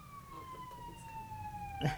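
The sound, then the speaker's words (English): An ambulance siren wails, its steady tone gliding slowly downward in pitch as it passes, one of several sirens, over low rumbling street noise with a brief knock near the end. “A lot of sirens. It's going that way. It's an ambulance.”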